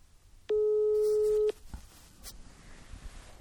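A single steady telephone ringback tone on an outgoing call sounds clearly for about a second, then stops, leaving only faint low background noise. No one speaks.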